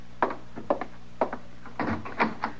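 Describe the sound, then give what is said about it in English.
A wooden door rattles and knocks repeatedly in short, uneven bursts, then thumps as it is worked open, with no voices. “Is it somebody working the door that way?”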